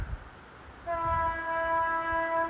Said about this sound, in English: Oh, sounds like a train's coming.